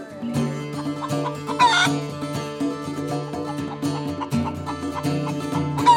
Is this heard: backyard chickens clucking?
yes